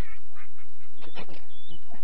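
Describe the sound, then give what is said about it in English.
A woman imitates a duck, giving a few nasal, raspy quacks in quick succession, moderately loud, with a faint hum underneath. “She pretending to be a duck at the moment.”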